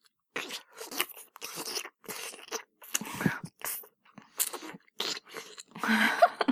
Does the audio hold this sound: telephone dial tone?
no